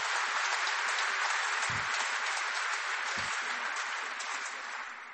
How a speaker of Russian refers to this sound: Вот, там живой концерт. Я слышала аплодисменты, а там как раз живой концерт записан.